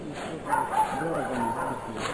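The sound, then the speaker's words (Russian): A dog barks twice in quick succession over a low murmur of men's voices talking in the background. “Сначала он услышал собачий лай, а затем мужские голоса.”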